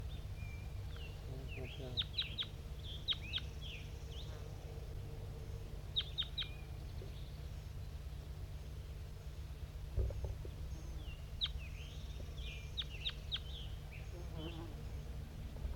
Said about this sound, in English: It's 8:21 and a wild flock of crossbills is coming from the east. It could be just one bird.